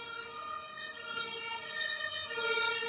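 An ambulance siren wails steadily outside, a continuous rising-and-falling electronic tone at moderate volume that holds through the whole moment without any voices.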